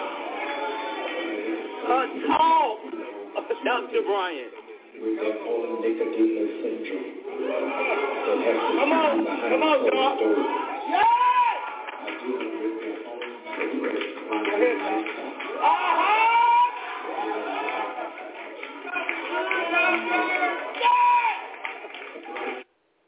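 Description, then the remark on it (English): An excited crowd cheers and chatters continuously for over twenty seconds in reaction to a speaker's remarks on fragile masculinity, many overlapping voices with occasional rising whoops and faint scattered claps, steady and loud throughout with a thin, muffled tone. “Okay, as you can see, the crowd is getting excited and worked up of what he's saying, called fragile masculinity.”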